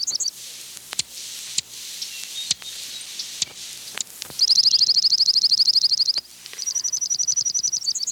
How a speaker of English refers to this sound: Although most juncos leave our area in winter, they do start returning in February, when they begin singing their territorial song.